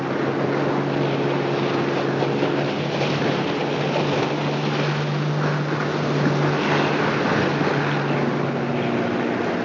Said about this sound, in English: gonna show me his new ski boat.